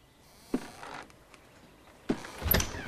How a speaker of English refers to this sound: She replaces the vase and tiptoes past the parents' room. The door opens.